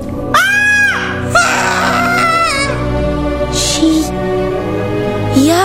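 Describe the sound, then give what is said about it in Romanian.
Two shrill, high-pitched screams ring out, a short one followed by a longer wavering one, over a busy noisy background with a couple of sharp clattering bursts afterward. “De data asta se aud două țipete ascuțite.”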